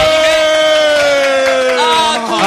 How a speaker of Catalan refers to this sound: Ens acompanya, segueix acompanyant el nostre acordionista, cosa no que... No para, eh? Bueno, un aplaudiment per l'acordionista.